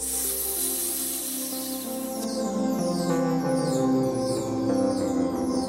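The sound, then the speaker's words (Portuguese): A person lying on their belly with chest and head raised, hands pressed against the floor, lets out air through their teeth in imitation of a snake, a steady airy hiss lasting about two seconds, with continuous music playing underneath throughout. “Soltem um ar pela boca entre os dentes, imitando o som de uma cobra.”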